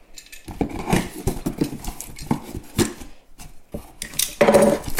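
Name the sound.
cardboard box being opened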